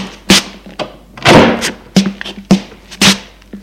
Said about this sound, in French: Il ouvre la porte et sort.